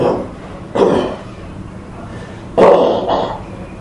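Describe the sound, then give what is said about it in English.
Two sharp, explosive sneezes about two seconds apart, fairly loud, the second a little stronger with a quick trailing burst, over quiet room tone with no talk. “Bless you.”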